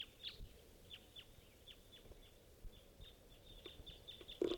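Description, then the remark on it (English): Type 2 red crossbill calls from several birds: a steady series of short, sharp kip notes repeating every fraction of a second, fairly faint over a soft background hiss, with no one talking. “And there's still quite a few crossbills around all type 2s.”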